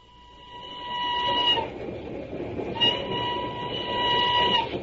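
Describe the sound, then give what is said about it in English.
An old train rumbles steadily along the rails, with a sustained high metallic whine riding over the clatter in two long stretches; no voices. “it's just this stuffy old train.”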